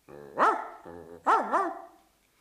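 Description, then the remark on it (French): A friendly dog barks loud and clear to show that someone is visiting: one drawn-out bark, then a lower grumbling sound, then two quick barks in a row, with no one talking. “Il y a le chien gentil qui montre que quelqu'un nous rend visite.”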